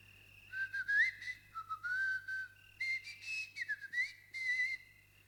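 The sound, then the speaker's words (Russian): A long, drawn-out whistle, fairly high in pitch, wavering and sliding up and down across several connected phrases for about five seconds, with a faint steady hum underneath and no talking. “И спустил протяженный свист.”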